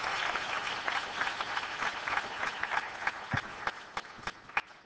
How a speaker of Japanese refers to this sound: 拍手を持って。